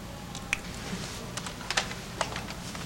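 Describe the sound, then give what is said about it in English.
Quick, irregular clicks of fingers typing on a computer keyboard, a handful of sharp keystrokes in bursts over a low background hum, not loud. “Just use the keyboard. The keyboard. How quaint.”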